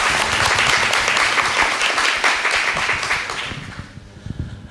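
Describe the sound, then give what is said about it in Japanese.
An audience at the J-REIT Fan 2020 event in Tokyo on February 1 applauds as the president of Canadian Solar Asset Management is introduced, a dense wash of clapping that holds steady for several seconds before thinning out and fading, with a few low thumps as it dies away. “どうぞ皆様大きな拍手お願いいたします。”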